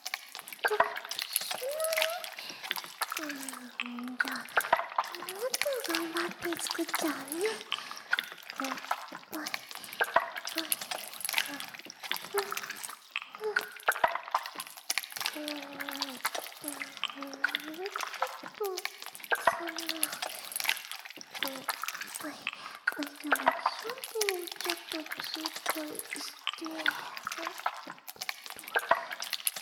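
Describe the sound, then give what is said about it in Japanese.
Shampoo foam being lathered on hair, worked up into a large amount of foam, enough to wrap the head, gives a steady, fizzy crackle and wet squishing for the whole stretch, while a soft voice talks over it. “お兄さんの頭を泡で包んじゃうくらいがいいかも。”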